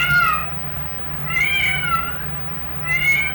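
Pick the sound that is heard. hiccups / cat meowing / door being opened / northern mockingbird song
cat meowing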